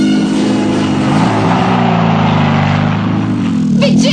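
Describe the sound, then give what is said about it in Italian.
An action motorcycle engine revs and drones steadily as it is ridden off ahead, its pitch rising and falling as it pulls away. The loud, continuous rumble carries on alone throughout, with a brief higher whine near the end. “Ok, io corro avanti con la moto d'azione.”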